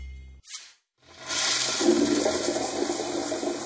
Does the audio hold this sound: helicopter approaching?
no